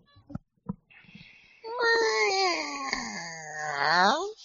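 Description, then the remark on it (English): A person's voice imitates a strange cat noise: one long, wavering yowl that dips and rises in pitch for nearly three seconds. A few short, soft bursts of sound come just before it. “What was that weird cat noise and who did it?”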